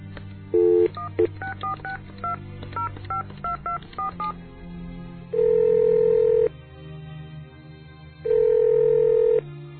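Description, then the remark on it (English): A rapid series of touch-tone beeps dials a cell phone number, followed by two long, loud ringback tones with a pause between them, with no voices. “Why don't I call Mac's cell phone?”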